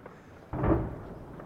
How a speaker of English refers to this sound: Another huge explosion just now. We're walking across the fields from a little village just to the east of Kobane towards the border fence.